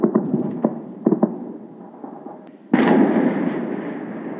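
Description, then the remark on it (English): Rapid bursts of heavy gunfire from air defenses shooting down Iranian Shahed drones during a Russian drone attack on Kyiv, Ukraine, crackle against a rumbling backdrop, with sharp repeated reports, then a sudden loud roar swells and lingers as a sustained, noisy wash of booming fire. “You know, that's the air defenses shooting down the Iranian Shahed drones.”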